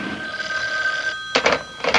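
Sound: telephone ringing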